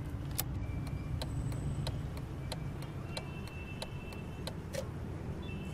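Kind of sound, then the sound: vehicle, car being driven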